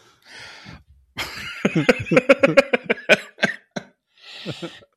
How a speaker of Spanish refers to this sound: Ay, ya estoy en la edad de viejito. ¿Cómo dicen que ya? Ríes y toses. Ríes y toses, güey.